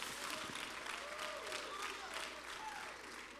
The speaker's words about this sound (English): You got something to shout about. You got something to magnify God about. Come on, somebody clap your hands and give the Lord a shout of praise.